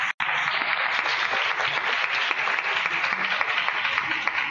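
Sustained applause from a crowd, a dense, steady wash of many hands clapping at an even loudness for several seconds, with no voices breaking through.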